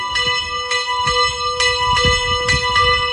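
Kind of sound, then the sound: signal or alarm, church bell ringing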